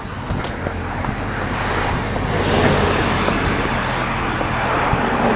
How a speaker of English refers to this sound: So I've made a loop around Baywood Drive north and south, and I am now approaching alternate 19, where there's quite a bit of traffic.